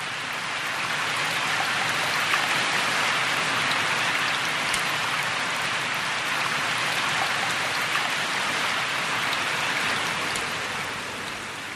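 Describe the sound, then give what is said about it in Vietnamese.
Steady, dense rain pours down continuously, a broad hiss of countless drops striking a surface at even loudness throughout, with no voices or other sounds. “Ngày hôm ấy, sau khi làm mưa đủ 3 thước 42 giọt, các thần lục tục thu xếp định kéo về”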